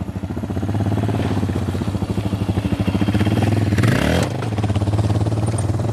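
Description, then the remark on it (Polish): A single-cylinder Suzuki DR650 motorcycle engine, an older model built for travelling, idles with a steady, loping thump, then revs up sharply near the end before settling back to a rumbling idle, loud with no talking. “To jest Suzuki DR650, to jest taka jakby powiedzmy babcia tego motocykla, który ma Kasia, bo jest jakby starym modelem, ale rocznikowo młodszy.”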